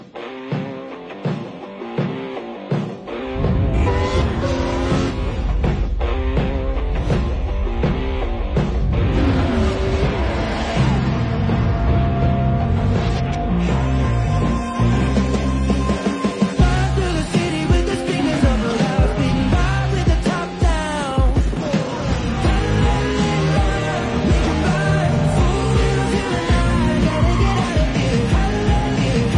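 A rock song from the F1 movie, with electric guitar and drums: a few sparse opening hits, then the full band kicks in loud and dense, driving steadily for the rest of the stretch.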